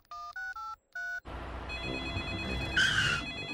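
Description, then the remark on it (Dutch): Four short electronic dialing beeps in quick succession as a call is placed to a tow truck service, followed by a busy, noisy stretch with a shrill telephone ring rising near the end. No one speaks. “Ik bel even naar de volgende hulpdienst.”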